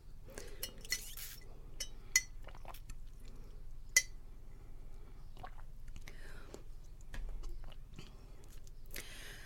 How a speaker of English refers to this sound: I'm going to take a sip of my drink.